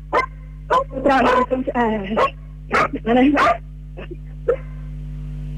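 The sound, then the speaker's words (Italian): A dog barks repeatedly in short, sharp bursts, loud, over a steady low electrical hum with some talking mixed in. “anche il cane, come vedete, è contrario alla terra.”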